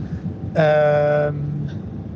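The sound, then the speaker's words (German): Low, steady rumble from inside a racing team's moving bus, with a loud, bright horn-like tone sounding for under a second partway through before the engine drone carries on. “So, wieder Grüße aus dem Bus.”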